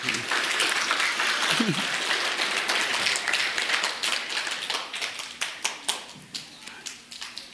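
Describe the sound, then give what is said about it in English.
A crowd applauds in a dense, steady wash of clapping that gradually thins out, ending in scattered individual claps. Faint voices may be mixed in under the applause. “You just pretend the applause is for you.”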